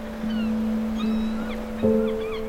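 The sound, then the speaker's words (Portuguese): A deep horn sounds steadily from fishermen's boats out at sea, heard far off from the beach, a second horn tone joining near the end, with faint seagull calls drifting above. “Ao longe, ouves as gaivotas e os sons dos pescadores que estão nos barcos, no mar.”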